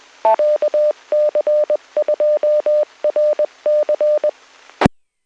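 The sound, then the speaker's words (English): An amateur radio repeater beeps out its call sign in Morse code during a radio club net, a steady mid-pitched tone keyed in quick dots and dashes over faint static, ending with a short squelch burst. “this is AC2GS, and it's very appropriate that the repeater did its little commercial calling out its call sign in Morse code.”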